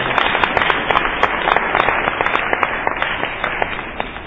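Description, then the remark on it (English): A room full of people applauding to congratulate someone, dense overlapping claps forming a steady, fairly loud wash of sound that holds evenly for several seconds with no speech. “One more round of applause for Stephen.”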